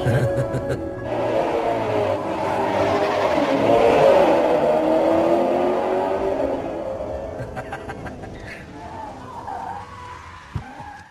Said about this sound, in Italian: I due vengono fermati dalla polizia a causa della forte velocità.